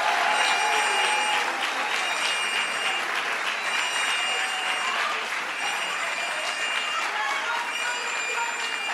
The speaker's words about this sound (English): So let's give them a round of applause for their good work.